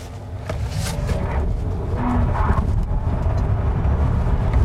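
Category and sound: vehicle, electric car accelerating hard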